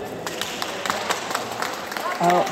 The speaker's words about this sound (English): and they are applauding Madame Pellico while she walks out. You can hear them applauding, saying bravo.